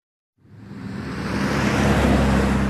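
A steady, broad roar of highway traffic on Interstate 25 north of Denver, in Weld County, Colorado, swells in after a moment of silence and holds, a dense wash of tire and engine noise with a low rumble underneath and no voices.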